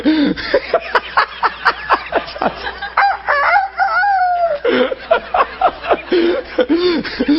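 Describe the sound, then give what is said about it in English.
A loud voice imitates a barnyard rooster, with a run of choppy clucking sounds leading into a drawn-out, wavering crow in the middle, then more clucks after it. “Do you ever go to a barnyard and the old rooster meet you on the lane?”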